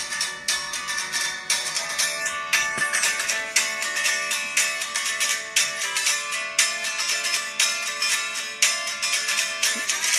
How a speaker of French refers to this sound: Donc le départ de la chanson, c'était sur mon téléphone, c'est ça. Ça c'est vraiment une guitare électrique contre le téléphone.